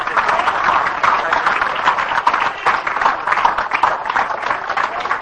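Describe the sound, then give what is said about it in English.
A church audience gives the Lord a hand clap after a healing prayer, sustained, dense applause with many overlapping claps forming a steady bright roar that holds at an even, fairly loud level throughout. “Give the Lord a hand clap, folks.”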